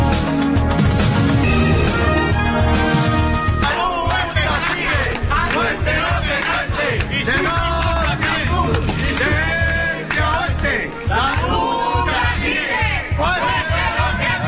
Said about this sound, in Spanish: El sonido, el griterío esta mañana de la plataforma de afectados por la hipoteca que ha conseguido paralizar en Parla el segundo intento de desahucio de la familia